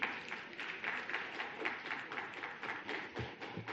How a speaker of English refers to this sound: No applause, please.